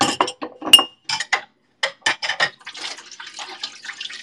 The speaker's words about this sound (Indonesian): Aku sambil cuci piring ya guys, temani aku cuci piring dulu.